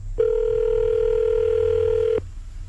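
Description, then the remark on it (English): A single steady telephone ringing tone hums for about two seconds as a call is placed to a man's wife, then cuts off abruptly, clear and fairly loud over a faint low rumble, with no one speaking. “I'm going to call her right now and see if I can make this happen.”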